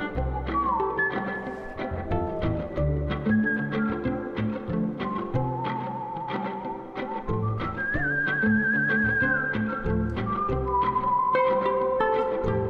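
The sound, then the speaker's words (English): Clear human whistling traces the melodies of birds, both living and extinct, sliding and trilling on top of a steady, rhythmic violin groove with plucked, percussive accents that runs throughout, mixed with a mourning dove as a bed underneath. “By whistling melodies of birds both living and extinct, mixed with this violin groove”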